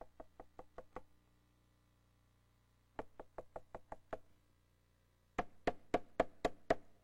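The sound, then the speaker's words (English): Three bursts of sharp knocking, as if on a door, each a quick run of five to seven raps separated by short pauses, the last burst louder and more forceful. “Sin is like this.”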